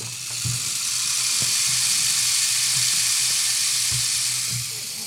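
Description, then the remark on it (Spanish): Heavy rain pours down in a steady, dense hiss that fills the whole stretch, with a few soft low thuds underneath and no voices. “Tan aterrador que empezó a llover a cántaros.”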